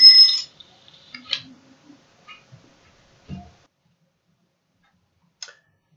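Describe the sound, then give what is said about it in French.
An alarm clock gives a brief, bright ring at the start in the morning to wake someone, then scattered mechanical clicks and ticks follow at an irregular pace, fairly quiet, with a soft thud midway. “Le matin, c'est très difficile pour lui de se réveiller. Même quand on a un réveil.”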